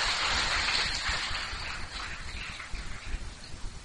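A crowd claps together in a dense, steady round of applause to commemorate a vow, which gradually thins out, leaving a few scattered, sharper claps near the end.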